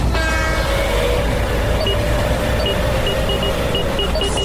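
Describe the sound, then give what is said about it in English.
A train rumbles steadily through a railway tunnel, a constant loud roar with low drone and faint metallic tonal squeals and whines riding on top, no one talking. “That's why you need tunnels like this one when there's something to get through.”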